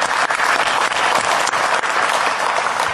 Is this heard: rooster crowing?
no